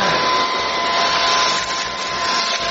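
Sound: vacuum cleaner running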